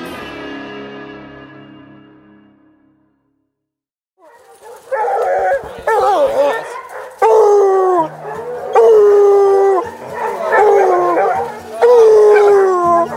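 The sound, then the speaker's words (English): A pack of free-ranging bear-hunting dogs howls and bays together after picking up a track, several voices overlapping in rising and falling wails that keep up loudly for about nine seconds, after a fading tone and a brief silence. “Walking down through here, there's a bunch of dogs free ranging, and we looked down, seen the track, but they took off.”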